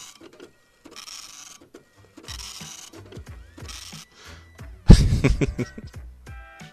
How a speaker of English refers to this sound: I want to see a picture on a dot matrix printer. I bet that looks amazing.